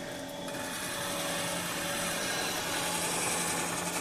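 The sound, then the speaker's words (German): A steady, loud mechanical whir of a grinding machine in a glass art workshop grinding a Rotterglas, with a constant motor hum and a harsh, hissing high-pitched scrape running throughout, with no talking. “So hört es sich an, wenn ein Rotterglas geschliffen wird.”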